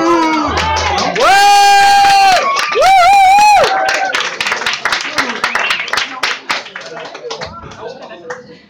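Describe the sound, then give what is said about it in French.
An audience cheers with loud, sustained whoops, then breaks into steady applause, a dense patter of claps that thins and tapers off toward the end. “C'est pas une première goguette, on applaudit normalement.”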